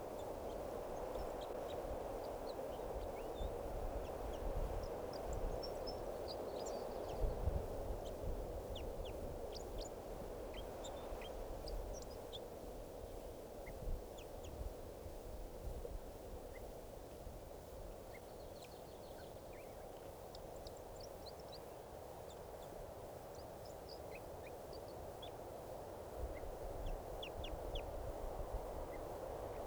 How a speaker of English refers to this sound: It's recording the wild birds who have come in. Looks like about 2 birds are in song. So, and one of the birds is getting some calls here. Recording song along the birds.